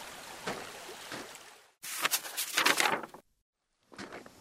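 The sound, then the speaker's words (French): Water from a river stream flows steadily, then swells into a louder, splashy rush before a brief silence, after which the flowing water returns. No voices are heard. “J'ai de grandes jambes pour sauter par-dessus les rivières.”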